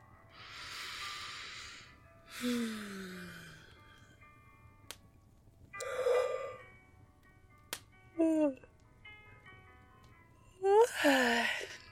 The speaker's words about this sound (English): You made me yawn. The fire is making you sleepy.